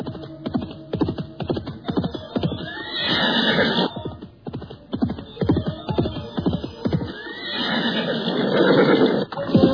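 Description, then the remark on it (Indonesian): A horse neighs and whinnies repeatedly, loud, with breathy snorts between the calls, as two riders on horseback approach; no one speaks. “Pada saat itulah, dua orang penunggang kuda datang menghampiri mereka.”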